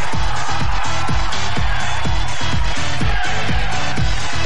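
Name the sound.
applause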